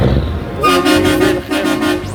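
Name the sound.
truck horn honking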